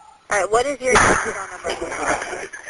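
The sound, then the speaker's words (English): A single muffled gunshot cracks over a phone call, mixed in with a voice in the background yelling and crying out for help; the background sounds thin, noisy and telephone-filtered. “Just gunshots.”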